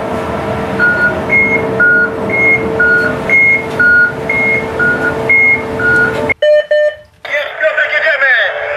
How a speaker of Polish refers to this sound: To jest pierwszy sygnał rozruchowy, taki ostrzegawczy, że rusza przenośnik ścianowy. I za chwilę będzie drugi, że rusza kombajn.